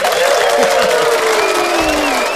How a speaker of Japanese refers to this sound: 自分で拍手する